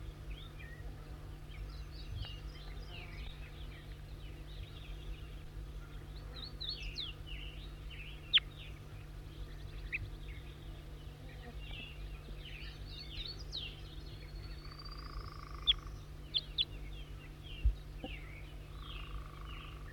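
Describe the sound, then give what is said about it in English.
Wild birds chirp and trill continuously in overlapping high-pitched calls, with a rising whistle near the end and a few sharp clicks, all over a steady low hum. “Wild bird.”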